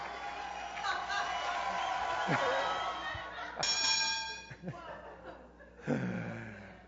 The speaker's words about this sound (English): Was that the gong?